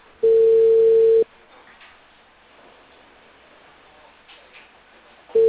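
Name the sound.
telephone call ringing tone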